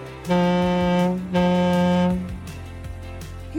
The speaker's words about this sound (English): Wowie, you did it again. It's a boat tooting its horn on the river.